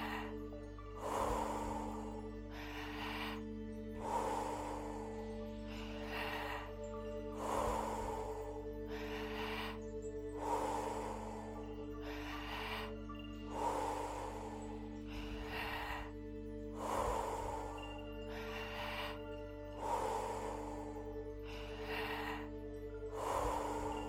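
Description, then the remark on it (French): Forceful, rhythmic breaths in and out during a breathing exercise, with no pause between inhaling and exhaling, repeat steadily about every two seconds, loud, over a low sustained musical drone with no talking. “Encore 10. On donne tout ce qu'on a.”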